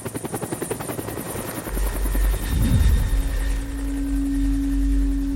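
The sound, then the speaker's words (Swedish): A helicopter that will carry an injured boy on to hospital: its rotor thuds in rapid, steady pulses, then the engine's low rumble and a rising whine swell as it spins up, loud and continuous with no voices. “Vi flyttar över pojken tillsammans med akutläkare och ambulanspersonal för att de ska kunna ta sig till helikoptern för vidare transport till sjukhus.”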